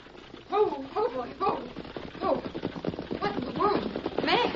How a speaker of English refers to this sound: Somebody come. It's a horse and wagon. Good.